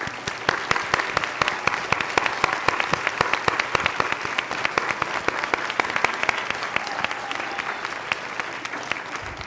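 A roomful of people applauds recipients of Diversity and Student Awards, many hands clapping in a dense, sustained patter that holds at an even level throughout without fading.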